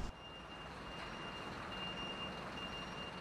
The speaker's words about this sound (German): Der Lastwagen wird wieder beladen.